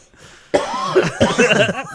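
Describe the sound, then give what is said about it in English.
A person coughs hard several times in a quick, raspy series after a brief quiet moment, the coughs loud with a rough, voiced edge. “You that makes me cough.”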